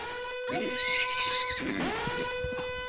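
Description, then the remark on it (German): A short 'pony alarm' sound-effect jingle: a horse whinnies loudly over sustained musical tones, its neigh rising and then sweeping downward near the middle, prominent, with no talking. “Und ich habe eine richtig gute Geschichte, hau mal einen Pony-Alarm rein.”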